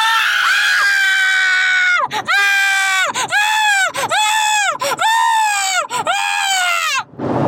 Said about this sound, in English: Wait, do I have permission to scream? I'm driving, actually.